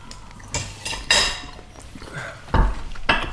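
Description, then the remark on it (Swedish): Dishes and cutlery clinking at a meal: several sharp, bright clatters at irregular intervals, a couple of them louder, over a low background murmur with no clear speech. “Sitter vi och käkar samtidigt då?”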